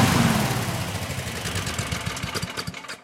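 A firefighting positive pressure ventilation fan's engine runs loudly and steadily, a throbbing low rumble under a broad rushing roar of air, continuous for about three seconds with no voices.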